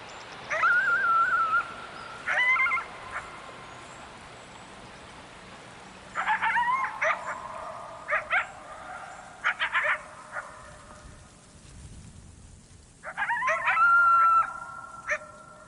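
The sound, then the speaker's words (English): Several coyotes howl and yip in bursts, their wavering cries echoing off surrounding hills, with quiet stretches of open air between the calls. “Some people hear this as a recording of silence made audible by the coyotes.”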